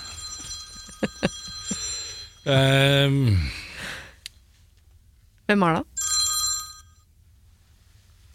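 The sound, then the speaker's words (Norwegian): A telephone rings with bright, repeating tonal chimes, loud, interrupted by a brief burst of a falling tone and a short spoken question; the incoming call is from a son-in-law. “Jeg skal bare ta den telefonen.”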